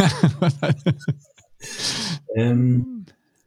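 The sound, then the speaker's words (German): Heavy breathing: a run of short, voiced huffs, then a loud, rushing exhale and a drawn-out groaning sigh before it falls silent. “Ja, du hörst mich ja schwer atmen, ne?”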